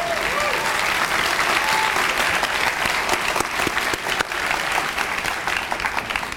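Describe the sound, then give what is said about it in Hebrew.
A crowd applauds Rabbi Dov Bigon, head of the institute, on 4 Tishrei 5777, steadily and loudly, a dense wash of many hands clapping that holds at an even level throughout without fading. “הרב דוב ביגון, ראש המכון, מהגדולים בסוללי הדרך של התשובה, עומד היום, נכון, עכשיו אפשר למחוא כפיים.”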